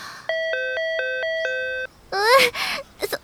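A bright electronic ding-dong chime, set off by someone pressing a button at a shrine, rings out loudly, its two tones alternating rapidly for about a second and a half, followed by a short burst of a voice speaking.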